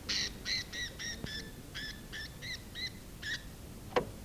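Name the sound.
parrot vocalizing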